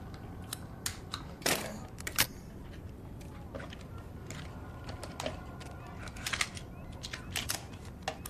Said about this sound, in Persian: چیزی نیست پسر جون، ببین فقط یه دوربینه. هی پسر میخوای ازت عکس بگیرم؟